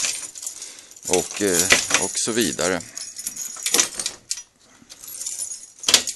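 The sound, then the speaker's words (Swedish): A large bunch of many keys jangles and clinks in repeated bright, metallic bursts as a person at work opens doors with it, with the person speaking briefly over the rattling. “För jag har en stor knippa med många nycklar.”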